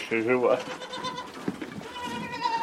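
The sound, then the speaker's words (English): Goats kept by a resident of a shelled Ukrainian town bleat, a strong wavering cry at the start followed by softer, drawn-out bleats over a steady outdoor background. “He needs to look after his goats.”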